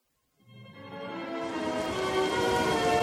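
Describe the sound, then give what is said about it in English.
A heavy downpour starts abruptly and swells into a dense, steady hiss of rain, loud throughout, with no voices. “Rogue Squadron and Wraith Squadron broke through the high cloud cover into a dark world lashed by rains.”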